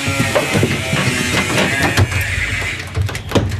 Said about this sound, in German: Ist natürlich eine geniale Idee, wenn man neben dem Studio eine Baustelle errichtet, aber so ist es halt gerade